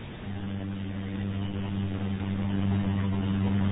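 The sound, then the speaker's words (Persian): A motorcycle engine drones steadily, a low buzzing hum that grows slightly louder as it goes on, with no voices over it. “این موتوری چیه اقدر مزاحمونه؟”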